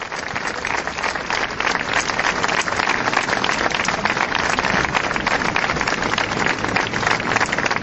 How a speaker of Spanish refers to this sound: El acto ha finalizado con un sentido aplauso por parte de los asistentes.